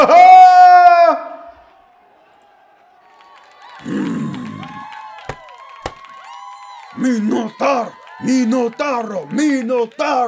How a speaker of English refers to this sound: You hear, Lobo, how they cheer for me?